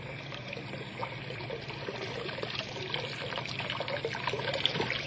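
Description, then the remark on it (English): Water trickles and splashes steadily through a wooden sluice gate just lifted by turning a big round handle, a continuous burble of flowing liquid with small spattering bursts, no voices present. “Well, at least I'm not sure, but that water, there ought to be a lot more water than that coming through the gate, a whole lot more.”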